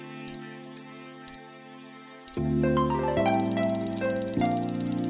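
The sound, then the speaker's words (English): A ticking clock sound effect marking the start of a timed countdown: a few crisp ticks about a second apart, then a loud droning synth chord kicks in with rapid, evenly spaced ticking over it. “The clock starts now.”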